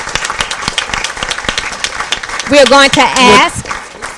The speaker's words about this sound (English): All right, everybody, once more, please join me in recognizing and giving a huge round of applause to our National Merit finalists.